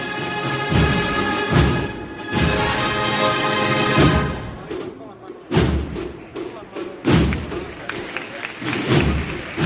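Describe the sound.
A band's sustained brass-like tones fade as a crowd bursts into loud, dense applause in a small square, the clapping swelling in waves with occasional heavy thumps and voices mixed in.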